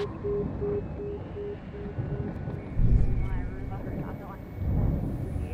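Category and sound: vehicle, helicopter hovering overhead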